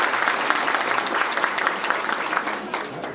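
An audience claps steadily for a few seconds, a dense, even patter of many hands at a constant loudness with no voices standing out.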